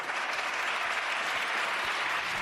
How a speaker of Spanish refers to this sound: Una burla contestada con el aplauso a Errejón desde todas las bancadas